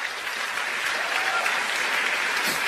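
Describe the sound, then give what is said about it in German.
Steady, dense applause from an audience fills the room, a continuous wash of many hands clapping at an even loudness throughout, with no voices standing out. “Ist wirklich, also da kriegst du dann Applaus in so einem Raum.”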